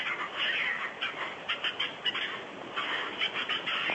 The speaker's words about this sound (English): Is that a squirrel? Yes, it's a squirrel. It sounds like a monkey. Get a load of him, a monkey. Sounds like a monkey to me, too. Have we got monkeys in this tree?